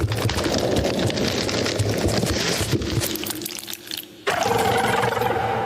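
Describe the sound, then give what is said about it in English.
A heavily processed rubber chicken squeal turned into a spider sound effect for a game: a dense, scratchy, crackling chitter that thins briefly, then returns with a harsher buzzing tone. No one speaks. “It was a rubber chicken.”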